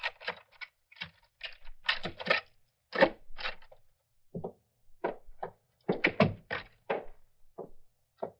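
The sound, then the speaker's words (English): A house door being unlocked with a key and opened: an irregular run of sharp clicks, rattles and dull thunks over several seconds, with no voices. “I'll give you my key. Now, let me open the door”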